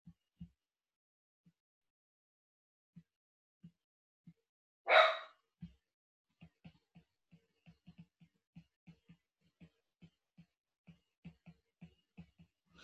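A dog lets out a single loud, sharp bark, then quiet, rapid ticking or panting-like sounds continue softly in the background.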